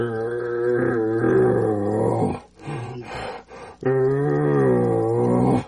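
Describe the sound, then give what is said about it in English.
A low, raspy growl voiced through a game call tube used without a reed, practicing growls: two long rumbling bursts separated by a brief choppy pause, loud, imitating an animal's growl. “So I'm practicing the growls in your tube. Like, just grab your tube without a reed and just.”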